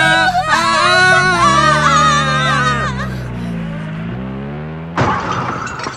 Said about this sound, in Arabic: السيارة انتبه. هكذا يبدأ المحرك بالعمل.